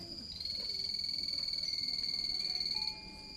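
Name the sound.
frogs croaking loudly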